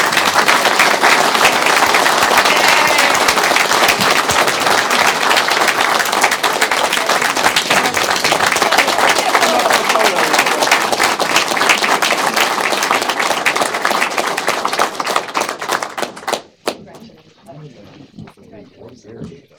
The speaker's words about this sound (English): All so stand we can up, and we'll give you all a round of applause.